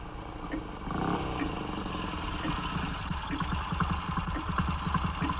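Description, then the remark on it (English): A motorcycle with a sidecar pulls up in a courtyard, its engine rumbling and settling into a steady, pulsing idle as it comes to a stop; no voices are heard. “It's a motorcycle and sidecar. It's pulled up in the courtyard.”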